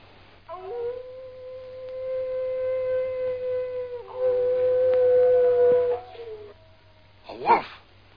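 A wolf howls in long, sustained rising and falling tones, two drawn-out cries in succession, followed by a short burst of sharper noise near the end.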